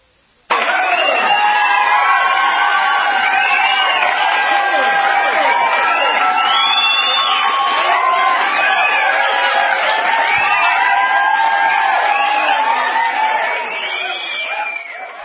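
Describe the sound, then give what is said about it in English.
A large crowd cheering and shouting loudly and steadily for about fifteen seconds, with overlapping yells, whoops and some lower jeering voices mixed in, easing off slightly at the end. “And there's a lot that are applauding, including the president. And I think they're in our studio right now.”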